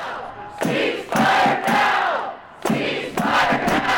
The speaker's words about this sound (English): The park was packed. The march lasted over 2 hours, holding up traffic at certain points. Protesters' voices echoed through the streets.